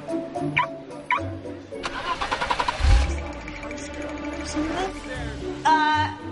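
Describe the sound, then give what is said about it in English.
A Buick LaCrosse car engine is started with its remote activation feature: a second of rapid starter cranking, then it catches with a low rumble and settles into a steady idle, with brief tonal chirps before and after. “Observe the remote activation feature.”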